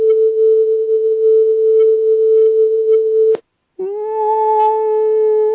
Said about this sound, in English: The bees buzz in the key of A, we found. And the frequency, this is the frequency of the buzzing of the bees right here, 441 hertz.